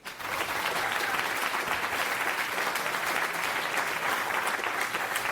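A crowd claps steadily for several seconds, a dense, even wash of applause that starts abruptly and stays loud throughout, with no voices breaking through.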